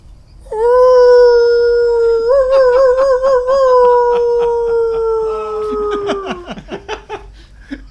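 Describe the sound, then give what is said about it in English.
A person imitates a dog howl, howling up into the air in response to a flare: one long, loud, wavering howl held for about six seconds, rising slightly before sliding down at the end, with faint rhythmic clicking in the background. “I don't know if it'll be audible or more audible than a human scream, but I'm going to howl up into the air in response to this flare that I see.”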